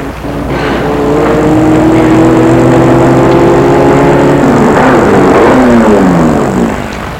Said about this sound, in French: Tout à coup, une voiture arrive, elle est noire.